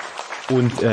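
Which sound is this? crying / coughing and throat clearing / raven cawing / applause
applause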